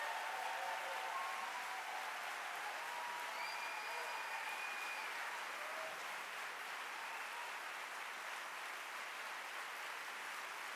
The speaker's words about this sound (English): So without further ado, can we give it up? A warm round of applause and Oakland welcome for Dr. Cornel West.